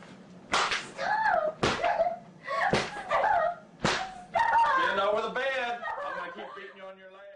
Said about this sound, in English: And in the video, you can see the father continue to beat her for a full minute and a half.